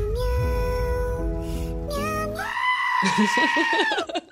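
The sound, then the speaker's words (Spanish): A dramatic scream sound effect: a loud, strained, goat-like cry with a harmonic tone that climbs higher partway through, holds for several seconds, then wavers and breaks off. “A ver, ponnos el grito dramático.”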